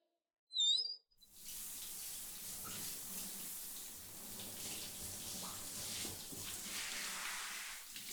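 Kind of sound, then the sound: household object, shower water running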